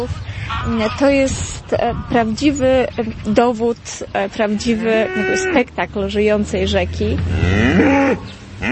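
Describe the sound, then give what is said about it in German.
Village cows moo repeatedly and loudly by the river at Brzostowo, their long drawn-out lowing calls overlapping one another over a steady low rumble of outdoor background noise. “Die Kühe sind die Hauptattraktion.”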